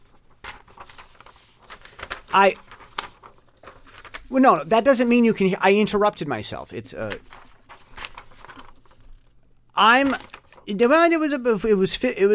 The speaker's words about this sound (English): Now, that means you can hear my new paper.